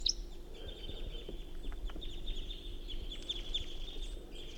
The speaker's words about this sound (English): Sorry, recording. This is 354 calling in response. 354. Recording, this is a wild bird.